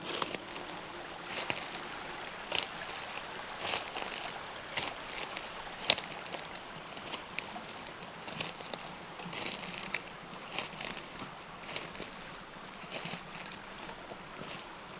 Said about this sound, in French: Un petit ruisseau s'écoule.